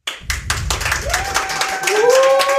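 A live audience at a live recording at Hamburg at Work claps and applauds, a dense patter of many hands, with a few tonal whistles or squeals rising over the crowd near the end.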